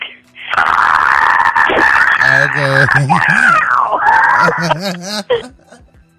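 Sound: person screaming loudly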